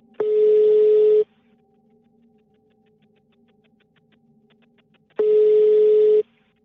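A phone ringback tone purrs twice as a police crisis negotiator calls from a car, each steady electronic burr lasting about a second with roughly four seconds of quiet line hiss between, heard through the handset.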